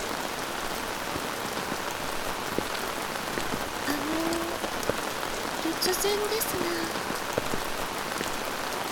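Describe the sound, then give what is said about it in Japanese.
Steady rain patters on a surface throughout, a dense continuous hiss dotted with sharper drop taps, while a woman speaks softly over it partway through. “旦那様は雨お嫌いでしょうか。”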